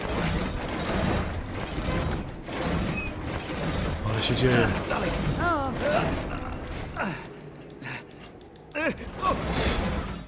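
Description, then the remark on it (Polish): A door creaks open with drawn-out, wavering squeals from its hinges, fairly loud, while people talk over it and background noise stays busy. “No dobra, drzwi dobra, jakieś.”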